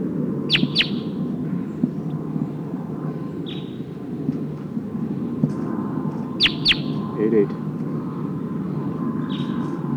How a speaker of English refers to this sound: Oh, sounds like one of the Sikansis birds is here in the trees.